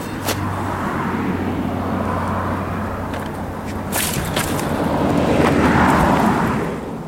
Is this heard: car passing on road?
yes